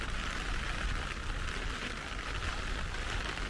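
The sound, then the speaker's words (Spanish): A steady, soft hiss of light rain falls continuously with no breaks near the border between Spain and France, an even wash of patter filling the background. No voices are heard. “Llueve ligeramente y también quiero comer antes de pasar la frontera, la cual desconocía que se podía cruzar en tren.”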